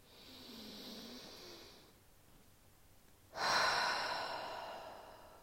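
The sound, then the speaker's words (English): A slow, deep breath drawn in steadily, a brief pause, then a louder, rushing exhale, with no talking. “Let's all take a deep breath here.”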